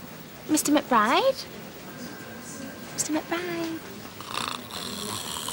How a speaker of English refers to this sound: One minute I'm talking to him, the next minute he's snoring. That's just rude.